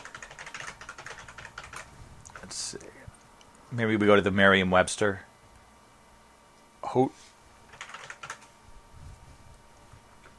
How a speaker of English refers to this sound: I'm just resting my microphone on my chest here. I'm like typing with both hands here.